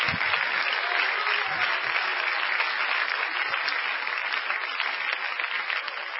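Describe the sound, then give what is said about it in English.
A large church audience claps continuously and shouts, a dense, loud, steady wash of hands that fills several seconds with the noise of the crowd blended in. “Clap your hands and shout, help us, Holy Ghost.”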